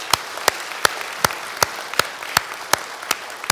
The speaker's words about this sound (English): And let's give them a round of applause for 44 years of ministry.